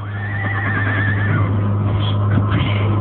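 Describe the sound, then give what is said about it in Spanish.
A horse whinnies in a stable with straw, a wavering, high neigh lasting over a second, followed by softer snorts and shuffling over a steady low hum, fairly loud. “Sigiloso, como fiera temerosa, avanza entre la paja de las caballerizas y sus ojos quedan fijos observando un caballo.”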